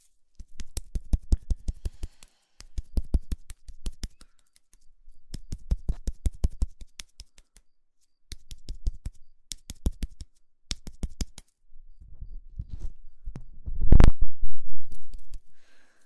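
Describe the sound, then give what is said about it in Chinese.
Keyboard keys clatter in quick, crisp bursts of typing separated by short pauses, recorded through a microphone being tested, with a louder, duller thump near the end. “这个麦，我觉得做键盘的触发音不会很尖锐，会比那个要好。”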